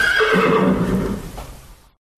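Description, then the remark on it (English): A horse neighs loudly, a single shrill whinny with a wavering pitch that tapers off over about two seconds, then silence. “I'm going to chat to you for a little postamble, if you fancy, after the noise of a horse.”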